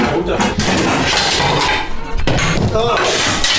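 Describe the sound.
A plate drops and clatters loudly, a sharp crash followed by rattling ceramic noise, with voices talking over it.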